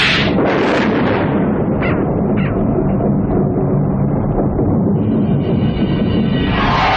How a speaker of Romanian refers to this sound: Ah, furtuna se apropie.